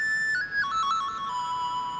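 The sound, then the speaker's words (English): A breathy, pan flute-like electronic tone from a phone app, played by blowing into the phone, plays a short descending run of notes, each slightly echoing into the next, heard alone at moderate volume with no talking. “And listen to the echo tone of it. It really does sound like a pan flute or something, you know?”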